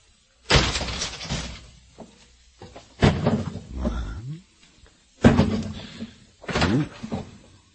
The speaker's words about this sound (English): All right! Hand up! We'll open the door.